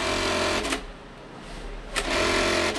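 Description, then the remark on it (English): Several sewing machines whir and rattle steadily in a small, cluttered clothing factory making blue jeans, their mechanical hum briefly dipping before surging back at full loudness. “small sewing machine cluttered factory is one of hundreds in the area that combined churn out 4 million pairs of blue jeans a year.”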